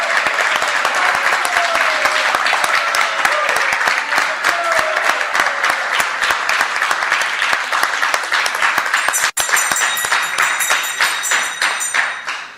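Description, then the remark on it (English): A large audience applauds steadily for about twelve seconds, dense overlapping claps at a constant loud level, with a few brief whistles and cheers mixed in near the end, welcoming the Google Serve Volunteers at a festival. “And so let's give them all a warm welcome and a round of applause.”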